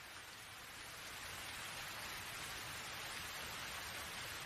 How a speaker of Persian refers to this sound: با این بارون نمیشه کاری کرد. فصل بارونم خوبیای خودشو داره. خب مثلا صدای بارون.